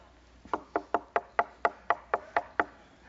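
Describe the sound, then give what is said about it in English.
Roughly ten quick, evenly spaced knocks on the wooden door of a house at midnight, sharp, rapping in a steady insistent rhythm for about two seconds with no voices. “But here you go, and you're knocking on the door.”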